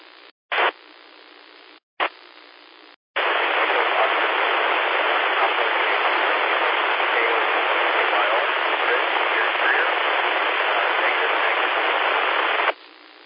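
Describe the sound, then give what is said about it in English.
A faint, unintelligible call from a station checking in to a radio net is buried under loud, steady band-limited static hiss, preceded by a couple of short squelch bursts before the noise opens up and holds for about ten seconds. “Okay, that last station that just checked in, you're really, really down in white noise. I could not pull your call out.”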